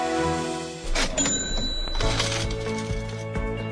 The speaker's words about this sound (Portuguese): Com o som das nossas moedas, aí a gente vai direto para a cotação do dólar